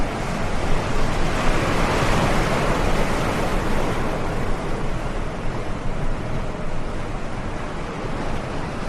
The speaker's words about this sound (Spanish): En la inmensa oscuridad, una patera desafía las olas de 3 y 4 metros. Más de un centenar de inmigrantes se agrupan en una embarcación que está a merced de este temporal.